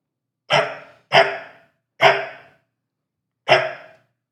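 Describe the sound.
A woman imitates a dog barking to trigger a phone's sound recognition: four loud woofs, the first two quick together, then a pause before the third and a longer gap before the last, with silence between.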